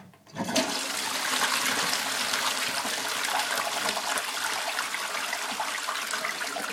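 A water toilet flushes with a sudden loud rush of water that starts abruptly and keeps roaring steadily, with a hissing, gurgling wash and no voices.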